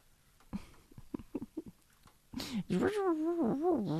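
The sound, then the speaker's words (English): A voice imitates a radio being tuned: a run of short choppy clicks and bursts, then a loud warbling tone that slides up and down in pitch like a dial sweeping across stations. “That's my impersonation of a radio being tuned in.”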